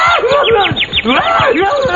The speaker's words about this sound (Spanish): ¡Un pajarito!